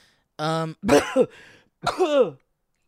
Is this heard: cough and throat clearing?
yes